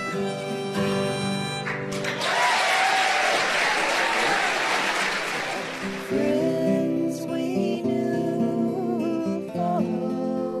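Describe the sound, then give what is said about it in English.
A burst of audience applause for children performing on a big stage swells for several seconds, loud and dense, between stretches of sustained musical tones before and after it. “they were still nervous to be on the big stage and grateful for the crowd's encouragement.”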